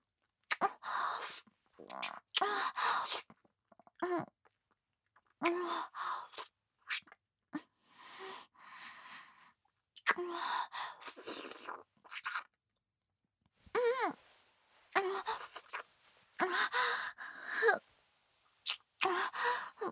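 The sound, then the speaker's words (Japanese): Breath blown in a series of airy, uneven puffs and exhalations, some soft and some stronger, with short pauses between them and no talking. “私のいやらしい吐息を吹きかけられるだけで興奮した。”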